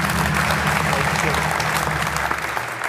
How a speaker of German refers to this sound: Euer Applaus.